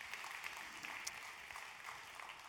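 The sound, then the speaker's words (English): A crowd claps steadily to applaud Jesus Christ, a dense wash of many hands, moderately loud, with no voices rising above it for the whole stretch. “You can applaud him.”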